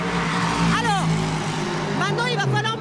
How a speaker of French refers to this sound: Le bruit est en nous. Voilà. J'ai l'impression d'être habité par le bruit. Ces voitures passent à quelle vitesse ? Ah bah ici, elles sont dans la ligne droite. En haut de la ligne droite, elles sont à presque 300 km/h.